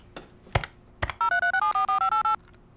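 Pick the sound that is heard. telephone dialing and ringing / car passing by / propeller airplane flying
telephone dialing and ringing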